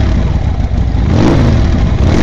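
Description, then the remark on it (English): Loud motorcycle engines rev in a parking lot full of motorcycles, a dense, rumbling growl that holds steady and swells slightly partway through, with no voices over it. “Move your bikes," she called.”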